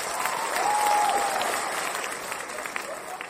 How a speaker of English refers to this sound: Hold on. Big clapping. Hold on.